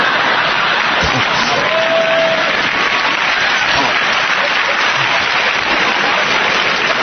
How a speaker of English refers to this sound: See, ladies are clapping. See, ladies are clapping.